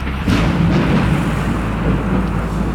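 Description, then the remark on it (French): A loud thunderstorm, with deep rolling thunder rumbling continuously through the whole stretch, heavy, under a steady wash of rain-like noise; no voices. “Elle a demandé à Poséidon de déclencher une tempête lors du voyage de retour des Grecs.”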